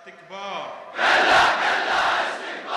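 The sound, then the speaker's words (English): A lone male voice, the cleric Sadr, calls out the chant "No, no to tyranny, no, no to the devil," then a crowd of thousands at the Kufa mosque answers with a loud, sustained roar of the slogan in unison that holds steady until the end. “His chants, "No, no to tyranny, no, no to the devil," were picked up by the crowds.”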